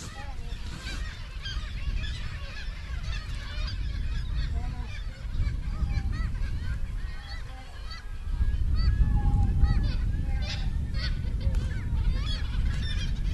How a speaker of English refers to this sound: It's just a cormorant making this call.